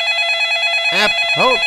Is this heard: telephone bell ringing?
yes